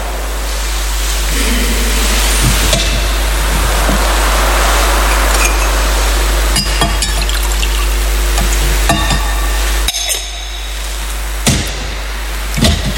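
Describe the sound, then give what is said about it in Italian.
During Mass, water trickles steadily into wine in a chalice amid constant hiss and a low hum, with a few faint clicks and knocks scattered through; no one speaks. “L'acqua, il vino, si segna la nostra unione con la vita”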